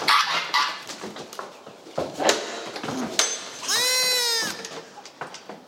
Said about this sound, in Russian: Это как называется? Это коза с детьми.